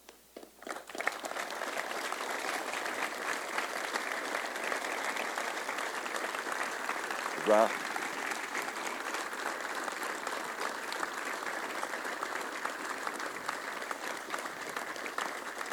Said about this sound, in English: We have representatives from the Chosen Few, Montford Point, and the 1st Marine Division Association. I just ask you to stand for our applause, please.